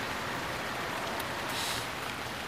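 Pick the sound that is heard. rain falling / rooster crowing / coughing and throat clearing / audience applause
rain falling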